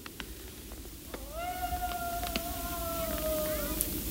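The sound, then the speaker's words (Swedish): A single long wolf howl holds a steady, slightly wavering tone for about three seconds, then slowly sinks in pitch, heard fairly clearly over a low background hiss. “Där kommer varg i min varggrop. Mamma. Vad ett konstigt läte på den vargen.”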